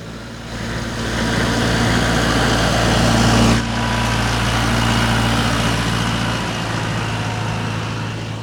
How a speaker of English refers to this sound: Maybe we'll just let this tractor go past.